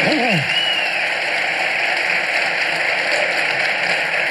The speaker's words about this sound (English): Dave Rubin is my other guest. Let's have a round of applause for Dave.